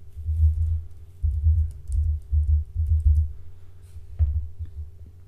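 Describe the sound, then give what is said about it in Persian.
Muffled keyboard typing comes in several quick clusters of dull, low keystrokes with short pauses between, fairly loud, with no voices, as an email address is typed into the first field of a website's sign-up form. “در قسمت اول ایمیلی که دسترسی کامل بهش رو دارید در این قسمت وارد کنید.”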